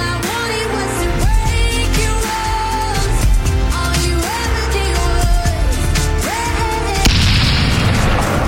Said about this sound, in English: What was that? An explosion. Right. Tim Westwood uses them.